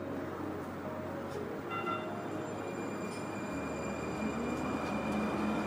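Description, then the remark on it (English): A Valley Metro light rail train in Phoenix, Arizona rolls past, a steady rumble of wheels on track with faint metallic squeals and whining tones, sustained throughout with no talking. “It includes the light rail running through Phoenix, Tempe, and Mesa, along with a network of bus routes that spans Valley municipalities.”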